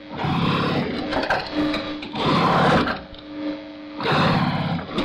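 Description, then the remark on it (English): A heavy sewing machine in a belt maker's atelier, used for making belts, runs in loud, rough bursts, three surges about two seconds apart, with a steady mechanical hum carrying through between them, without any talking. “This is a sewing machine, a very heavy one.”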